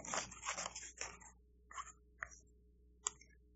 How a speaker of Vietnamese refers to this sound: Thành ra bây giờ mình cũng cắt thử trong cái vòng này. Nếu mà tôi làm trúng á, thì Chúa với tôi là một. Cái này sao mà làm nó dài vậy này. Đều ba miếng giấy hết mà.